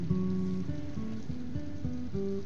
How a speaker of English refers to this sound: Yeah. I love that it's raining.